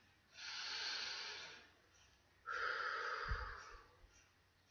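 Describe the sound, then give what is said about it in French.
A slow, deep breath drawn in, then a short pause and a long audible, airy exhale, with no talking. “Prenez une profonde respiration et répétez après moi.”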